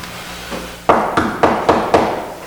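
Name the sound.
knocking on a door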